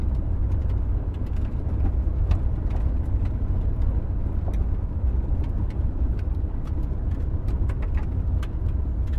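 A car drives steadily along a road, its low engine rumble and tire noise constant throughout, with faint brief ticks and clicks scattered over the drone. No one speaks.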